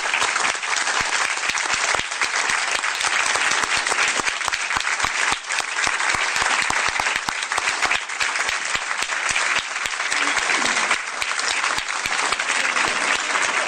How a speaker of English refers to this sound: May I please ask for a point of personal privilege and ask for all of our award winners to please stand so that we can recognize them with a round of applause.